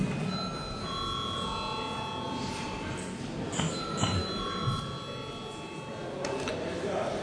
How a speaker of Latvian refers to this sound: Lūdzu, zvanu.